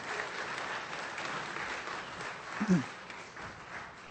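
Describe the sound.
A crowd claps steadily in sustained, dense applause heard at a moderate distance, with a brief low voice or murmur rising near the end.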